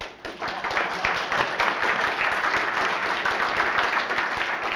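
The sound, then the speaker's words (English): An audience bursts into steady applause at the end of a presentation, many hands clapping in a dense, continuous patter that holds at a fairly loud level for several seconds without any talking. “This is where you clap.”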